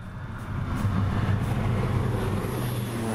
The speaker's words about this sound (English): It's a regular week in Ecuador's banana-growing region near the Pacific coast. A fumigation plane flies low overhead, spraying pesticides across the banana plantations. That happens once a week, 45 weeks a year.